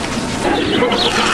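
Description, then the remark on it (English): A busy, noisy pig farm din of many pigs grunting and squealing over one another, steady and loud throughout with no pauses or talking. “now at the pig farm.”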